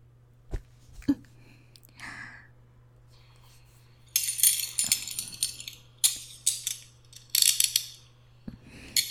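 Handcuffs ratchet closed on someone during an interrogation: a few isolated clicks, then several quick bursts of bright metallic clicking and rattling over a faint steady hum, with no voices.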